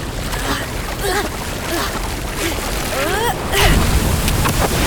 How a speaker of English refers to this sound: Looks like we have our first wave of the competition approaching. Here comes the wave! Surf's up!